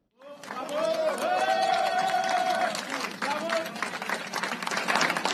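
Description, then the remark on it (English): An audience claps in approval as the lead negotiators of the government of President Abdrabu Mansour Hadi and the Houthi delegation shake hands under the eye of UN Secretary General Antonio Guterres; a dense, crackling wash of applause with voices calling and cheering over it for several seconds. “The audience clapped in approval as the lead negotiators for both the internationally recognized government of President Abdrabu Mansour Hadi and the Houthi delegation unexpectedly shook hands under the watchful eye of UN Secretary General”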